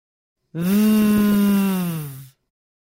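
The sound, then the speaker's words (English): In a pronunciation lesson, a voice demonstrates the voiced V sound, made by biting the bottom lip and forcing air out, holding a steady, buzzing V like a humming bee for nearly two seconds at an even low pitch, strong and continuous, then cutting off cleanly. No other sound accompanies it. “Have a go holding this sound for a few seconds and humming like a bee.”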